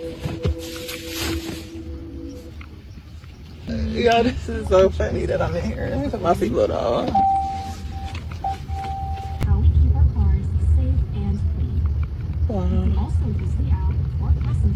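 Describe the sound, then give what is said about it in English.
Steady low rumble of road noise inside a moving driverless Waymo car with nobody at the wheel, on the way to work and taking back roads rather than the highway, growing heavier toward the end, with voices talking over it and a brief steady tone in the middle. “All right, I'm still in the car.”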